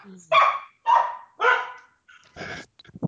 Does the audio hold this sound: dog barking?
yes